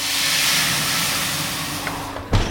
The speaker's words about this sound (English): What I also wasn't expecting was the secret to that crisp, dry crust. It's adding water to the hot oven.